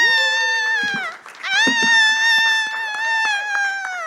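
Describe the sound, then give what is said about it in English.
A single person whoops and cheers loudly for themself before a live-streamed stand-up set in a virtually empty theatre: a short high-pitched holler, a brief break, then a long sustained whooping cry that wavers in pitch, with no other voices around. “This is me also cheering for myself.”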